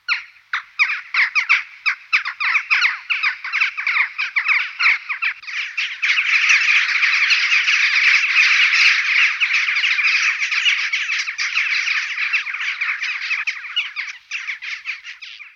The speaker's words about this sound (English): Jackdaws are very helpful birds who almost always announce their arrival by saying Jack.